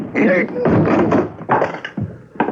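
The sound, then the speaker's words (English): Heavy thuds as the locked door of Room 313 is broken down, about five loud blows landing at an uneven pace, each with a dull, booming impact and a short rattle. “We'd better break the door down.”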